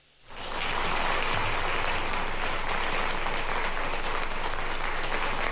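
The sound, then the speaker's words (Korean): Steady, dense applause from a large crowd at Camp Humphreys, the US military base in Pyeongtaek, South Korea, during the visit of President Donald Trump and President Moon Jae-in. It starts abruptly after a brief quiet moment and holds at an even, loud level throughout, like a continuous hiss of many hands clapping. “국정들의 박수 소리를 듣고 계신데요.”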